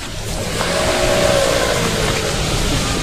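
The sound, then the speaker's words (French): A car engine revs steadily and loudly, a sustained mid-pitched roar with a rising whine as the vehicle pulls in, no voices present. “Par contre, voilà la fameuse voiture.”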